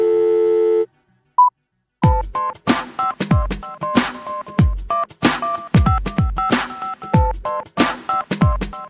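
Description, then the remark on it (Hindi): A brief electronic telephone busy tone sounds after a phone call is hung up, followed by a short single beep, before loud, upbeat music with punchy drums kicks in and carries on. “अच्छा सुनो, अब मैं फोन रखता हूँ, डैडी आ गए।”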